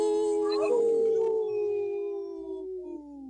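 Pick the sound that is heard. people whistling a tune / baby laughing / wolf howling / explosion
wolf howling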